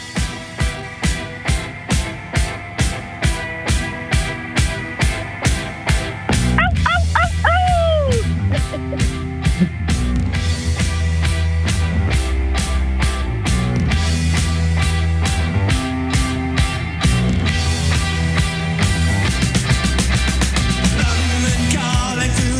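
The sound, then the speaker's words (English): The first of two candidate intro tunes being compared: upbeat music opens with a steady, punchy drum beat alone for several seconds, then a full loud arrangement kicks in with bass and melody, briefly topped by a high sliding whine. “You think of how great those drums are.”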